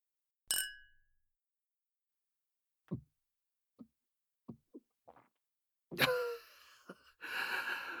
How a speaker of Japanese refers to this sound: お酒でも飲もうか。シャンパンがあるよ。じゃあ、乾杯しようか。俺のウサギちゃんに、乾杯。